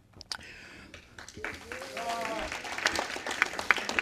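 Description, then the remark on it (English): An audience at a meeting breaks into applause during a nominating committee report, after the committee places a name in nomination for president; the applause swells over a few seconds, a dense patter of many hands clapping, mixed with scattered voices and crowd murmur. “Why don't you hold your applause to the end?”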